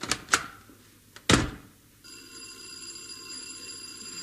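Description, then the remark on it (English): Several sharp, uneven knocks land on a front door, loud, then a steady electric bell or buzzer starts ringing and keeps going without pause. “There's somebody at the front door.”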